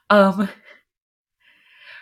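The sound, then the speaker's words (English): A single loud, harsh cough bursts out at the start, then fades into silence before a faint, breathy rasp trails in near the end. “Your cough was really loud and it scared me.”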